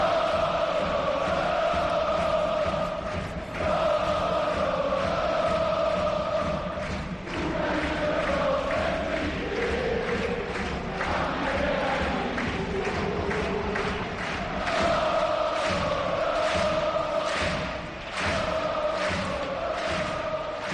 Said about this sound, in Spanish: Se acabó lo que se daba. Final del partido. Alegría en la grada. Holgorio con una victoria importantísima. 5-1 ha ganado el Racing.